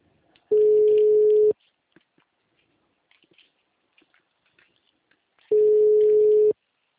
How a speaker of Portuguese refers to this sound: Sim, tá chamando.